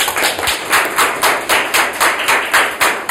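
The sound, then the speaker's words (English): An audience applauds speaker Mike Blackman before his talk: loud, dense clapping with a steady, almost rhythmic pulse of bright bursts, sustained throughout with no voices over it. “This is just a brief summary, but please, before starting, a big applause for him, please.”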